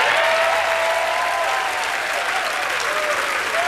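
Loud, steady applause from a large crowd, a dense wash of clapping that holds at full volume throughout, with some faint cheering and whistles mixed in.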